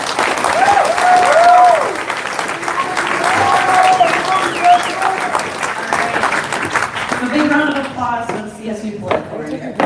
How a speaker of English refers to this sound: Big round of applause for the CSU board over here.